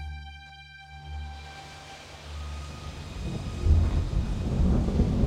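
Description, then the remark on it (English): A deep, rolling rumble of thunder builds steadily, swelling into a loud, heavy roar with a wash of storm noise and no voices, during a storm in Memphis on the night of April 3, 1968. “I'm delighted to see each of you here tonight, in spite of the storm warning.”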